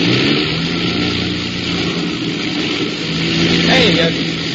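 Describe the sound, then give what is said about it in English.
Aircraft engines roar loud without a break during a storm in the dark, their droning hum running unevenly with a faint sputtering, misfiring roughness throughout, as they have been misfiring for about ten minutes. “And then I noticed the sound of the engines.”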